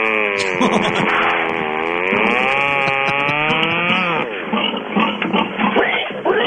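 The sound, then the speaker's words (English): A pig squeals loudly, a long wavering shriek held for about four seconds before breaking into shorter, choppy squeals and grunts, with no talking over it. “Anybody know how to get pig out of rayon?”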